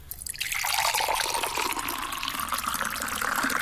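Water pours steadily into a jar, a continuous splashing stream whose pitch slowly rises as the container fills. The sound is close and fairly loud, with no talking.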